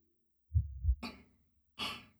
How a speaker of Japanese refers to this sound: さあ、ご主人様、私の胸元に右のお耳を当ててください。私の鼓動、聞こえていますか？